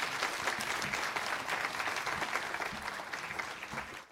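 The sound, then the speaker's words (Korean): A church audience claps together in steady, dense applause to welcome the pastor coming forward to preach, many hands blending into a continuous bright patter that holds fairly even for several seconds before easing off at the end. No one speaks over it. “사랑합니다 하는 마음으로 박수로 한 번 더 환영했으면 좋겠습니다.”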